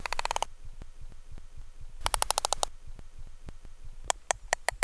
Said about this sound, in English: Sperm whales use short strings of distinct clicks, known as codas, to signal their membership in a clan.